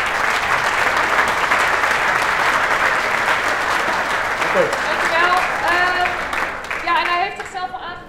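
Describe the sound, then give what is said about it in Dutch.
Sustained audience applause, a dense steady wash of many hands clapping at a constant loudness, with some cheering voices and whoops rising over it toward the end. “Grote applaus voor de diensten.”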